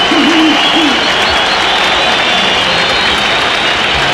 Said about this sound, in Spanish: Aplausos para Rojas, cambio, ovación para Marcelo Díaz, Roberto Enrique Vallejos.